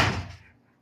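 A door swings open with a single heavy thump that quickly fades into a short low rumble, fairly loud, with no voices.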